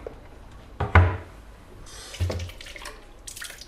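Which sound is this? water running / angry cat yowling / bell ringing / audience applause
water running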